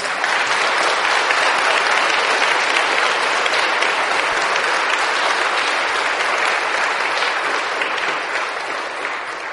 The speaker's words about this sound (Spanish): Estoy preocupado porque si ese es el más fuerte aplauso, está muy regular la ceja, muy regular.